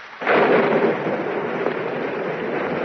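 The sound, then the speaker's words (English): A loud clap of thunder bursts in and rolls on into a steady, heavy wash of rain, with no voices present. “Reckon we could take the storm out across the field? The rain's turning into a fog.”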